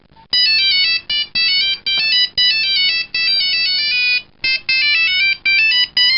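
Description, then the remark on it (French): A mobile phone ringtone plays a bright, synthetic film-theme melody in loud phrases separated by brief pauses, with no voices. “Livres, vidéos, photos, jusqu'aux musiques de films pour son portable.”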